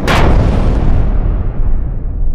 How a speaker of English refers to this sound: the other depth charges being dropped on them started going off like a chain of firecrackers